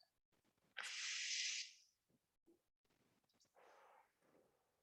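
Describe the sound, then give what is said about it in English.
A person yawns during a guided breathing exercise: a loud, airy rush of breath lasting about a second, then after a pause a softer, breathy exhale trailing off. Otherwise quiet, with no talking. “See, someone's oxygenating themselves, they're yawning.”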